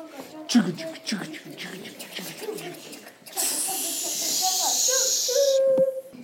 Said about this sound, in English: Late that night, I did hear sounds, though not of ringing bells, that sound like a train, a hissing steam engine in metal.